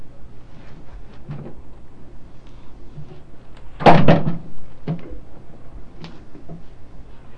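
A bathroom door is bumped with one loud thud near the middle, surrounded by a few softer knocks and taps before and after.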